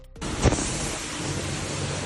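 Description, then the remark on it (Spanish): Steady rain falls in Valencia in a dense, even hiss that starts abruptly and holds for about two seconds, with a brief low thump early on and no voices. “El de la lluvia.”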